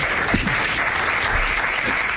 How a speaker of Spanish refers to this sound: No quedaba otra que aplaudirle. Vaya reflexión de Rafa Nadal después de convertirse, repito, en el jugador más joven de la historia en conseguir el Grand Slam.